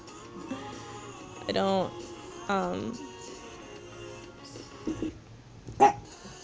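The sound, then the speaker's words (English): Dogs bark a few times indoors at somebody in the house fixing the toilet, with two longer, wavering yelps followed by a couple of short, sharp barks, set against a low background hum. “Okay, there's somebody here fixing the toilet, so the dogs are barking.”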